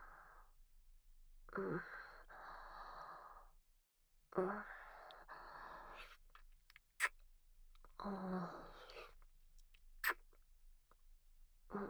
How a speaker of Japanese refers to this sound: なんかしてほしいの？キス？オッケー。